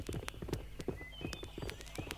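Hooves of a mail courier's horse (postillion) clip-clop in a steady, uneven walking rhythm, sharp knocks on a hard surface, with faint background noise and no voices.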